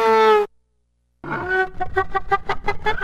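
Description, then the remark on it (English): A violin bow drawn against an acoustic guitar imitates a donkey's bray: a short, loud, buzzy sustained note, a brief silence, then a rapid series of rasping, pulsing hee-haw tones. “All of these animal noises are made by using a violin bow against an acoustic guitar. Donkey.”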